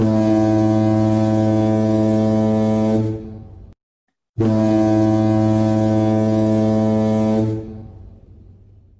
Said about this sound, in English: You want to throw the air horn? Oh, I actually do. I have it here. Yeah, go for it right now.